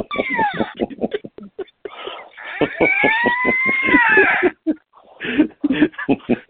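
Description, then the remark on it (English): Loud screeching like a cat being strangled, heard outdoors on Orcas Island after a sliding glass door is opened: harsh, rising and falling wails, with one long drawn-out screech in the middle and choppy yowls before and after. No talking. “The hell was that? I opened the sliding glass door. Like a cat was being strangled or something.”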